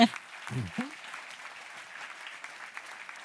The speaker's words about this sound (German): Einmal Applaus.